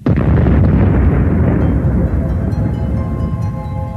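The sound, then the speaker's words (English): A huge, deep explosion representing a supernova, the explosion that ends the life of a big star, roars in at full loudness and rumbles on as a dense, low rolling blast that slowly fades over a few seconds, with no voices. “But they end their life in a huge explosion, which we call the supernova.”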